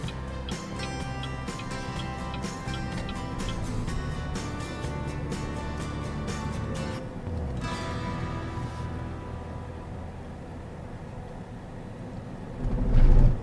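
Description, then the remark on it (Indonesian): A quiet small electric car accelerates, heard from inside as a steady low hum of faint tire and road noise, with light rapid ticking early on and a brief louder thump at the end. “Biasanya mobil listrik bannya berisik. Ini nggak berisik.”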